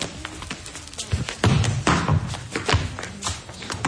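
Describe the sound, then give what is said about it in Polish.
Several dull thuds of a football being kicked during a hop, skip and shot drill, irregularly spaced over a noisy outdoor background, moderately loud. “Hop, skip i strzał.”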